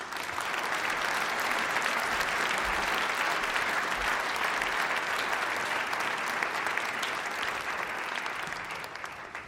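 Sustained audience applause, a dense wash of many hands clapping at steady loudness for nearly ten seconds before easing slightly at the end, with no voices on top.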